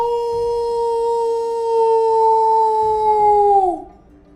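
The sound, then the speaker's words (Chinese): A single long, steady animal howl at a fairly high pitch, holding one sustained tone for several seconds before sliding downward and cutting off, with low rumbling noise underneath. “又像是有动物的嚎叫。”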